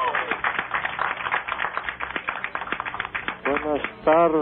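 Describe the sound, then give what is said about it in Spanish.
An audience in Monterrey applauds steadily for several seconds as a performer is introduced, dense, continuous clapping, then a voice cuts in near the end as the applause fades under it. “Déjenme presentarles, un aplauso”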